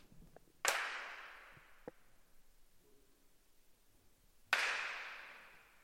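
Two loud, sharp hand claps a few seconds apart, each followed by a long, smooth reverberant tail that dies away slowly in a large hall. No one speaks.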